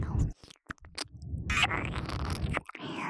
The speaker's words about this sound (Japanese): 子供の汚らしい食事音。